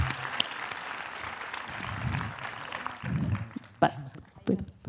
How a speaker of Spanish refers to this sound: Un aplauso para esta obra